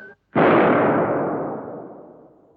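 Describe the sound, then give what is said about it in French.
A single loud cannon shot, fired from a frigate lying to leeward, booms out after a brief pause, then rolls away in a long, fading rumble lasting over two seconds, with no voices present. “D'où vient cette détonation ? Un coup de canon, monsieur, de cette frégate à 3000 sous le vent.”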